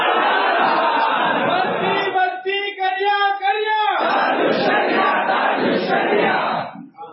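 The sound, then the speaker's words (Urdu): A large, dense crowd roars and shouts together, chanting slogans for Taj al-Shariah at Nagpur airport, with a stretch of loud, drawn-out unison chanting in the middle before the mass of voices surges back into noisy slogan-shouting. “سب ایک طرح کمرے لے کر گئے ہوئے اور یہاں تاج الشریعہ کے نعرے لگائے.”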